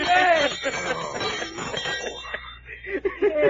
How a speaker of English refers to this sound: Well, this ain't no alarm clock. What is it, then? Well, this here, sir, is a dinner gong. What? A dinner gong. It don't even work like no alarm clock.